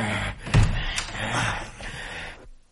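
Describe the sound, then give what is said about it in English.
A door opens with a heavy thud and a sharp click, followed by a second or two of scraping and rustling before it falls quiet. “Door, Doc. Here goes.”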